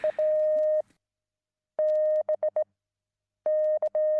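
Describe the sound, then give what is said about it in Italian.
Morse code beeps from a steady, clear electronic tone, sent in three separate bursts of long and short pulses with silent gaps between them: the letter S in Morse, heard as a radio signal through a headphone. No voices accompany the signal. “Ebbene, la prima e definitiva risposta è arrivata con i 3 click corrispondenti alla S del Morse.”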